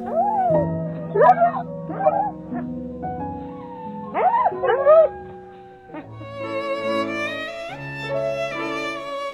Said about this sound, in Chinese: 说完，吉奥就昂首挺胸，对着月亮唱了一曲狼族的爱之歌。